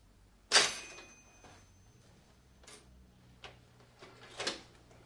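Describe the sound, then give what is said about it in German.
A sharp mechanical clack of a cash register drawer being shut, followed by a metallic ringing tail, then a few softer clicks and rattles with no talking. “Kommen wir wieder in die Kasse rein. Ja, das können wir jetzt auch schön zumachen.”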